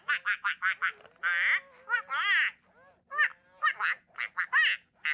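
A toy duck, voiced as a little apprehensive, quacks in a rapid string of short, nasal bursts, broken by a few longer drawn-out squawks, with brief pauses between groups and no talking.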